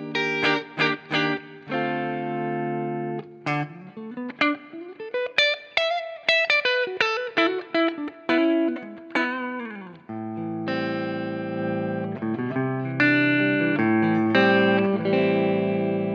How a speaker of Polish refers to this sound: Na Gibsonie mamy taki jazgotliwy sound, taki gardłowy mocno, nie? Lekko przesterowujący się, więc skręcam głośność w gitarze.